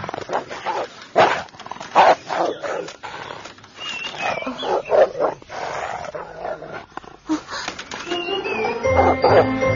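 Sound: dogs barking and whimpering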